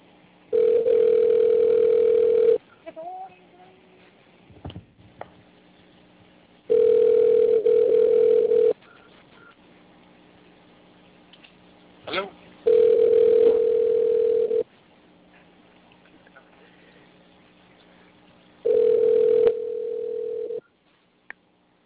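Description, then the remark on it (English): A ringback tone heard through a phone line repeats four times, each steady burst lasting about two seconds with long quiet gaps between, faint line noise and small clicks filling the pauses. “Still trying to connect.”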